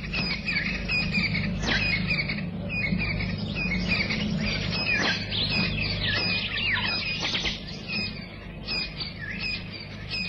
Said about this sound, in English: The chorus of birds heralds the dawn in the African bushveld.